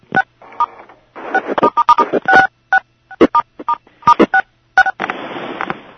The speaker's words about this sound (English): And as you can probably sense from the number, the sounds of those beeps, that's just how many people are on the call right now. We've been getting that a lot since about 1:45.